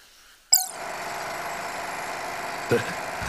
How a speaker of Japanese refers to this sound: え、何これ、工事現場の音？いや、この圧倒的な生命感はラクダの鳴き声。いやいや、これを作業 BGM にするのはおかしいだろ。明らかに騒音じゃねえか。